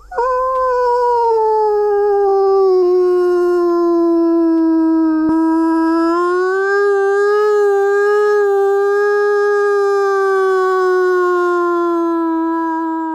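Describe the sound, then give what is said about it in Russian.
A person imitates a wolf howl as a howl call: one long, unbroken, loud note lasting over ten seconds, its pitch dipping slightly then rising and gently wavering, with no talking. “Ваба – это вой, когда человек имитирует звук.”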